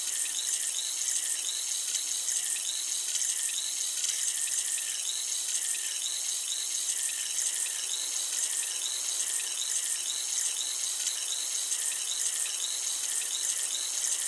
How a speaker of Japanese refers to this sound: 炭酸を用いた耳洗浄をしております。この耳で弾けるシュワシュワとした音と感覚が心地いいですよね。